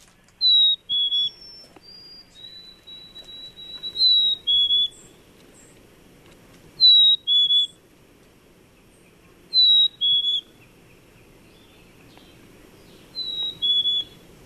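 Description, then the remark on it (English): A black-capped chickadee, a very common bird in Wisconsin, sings clear, sweet two-note whistles, the second note dropping slightly lower. The phrase repeats about five times at steady intervals, alone over a faint low background rumble. “Some birds have been declining, but one that is certainly very common, and I have to say is one of my favorites, is a black-capped chickadee. So let's listen to the chickadee.”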